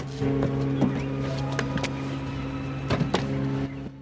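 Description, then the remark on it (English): A motorbike engine hums steadily, its low idle broken by a few sharp mechanical clicks, before the engine cuts out near the end as Guzman rides up outside and parks next to a Jeep Cherokee. “Guzman rides up outside on a motorbike and parks next to Sarah's Jeep Cherokee.”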